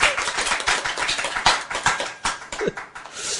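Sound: audience clapping hands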